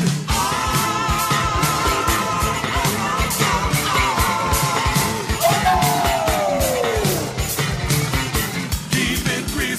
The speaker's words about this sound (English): I know that one. Here come that crazy screaming sound.